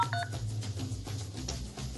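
A dial-up modem dials with a quick pair of sharp, high touch-tone beeps, then a steady hiss and low droning line noise fill the rest, with no voices.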